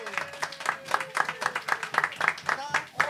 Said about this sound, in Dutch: Haal maar uit de doos. Het is een speakerbox. Applaus.